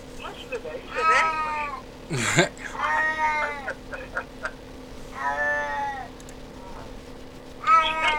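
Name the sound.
cat meowing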